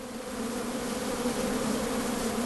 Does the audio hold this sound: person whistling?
no